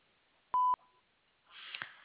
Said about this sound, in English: so at the beep, please leave a message.